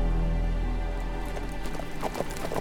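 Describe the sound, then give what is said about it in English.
Several horses' hooves clip-clop at a walking pace as a band of riflemen rides forward 300 yards in thin morning light, the irregular clatter growing more distinct as the animals move off, with a low rumble underneath and no voices. “their pistols stripped from their holsters, the band of riflemen rode forward 300 yards.”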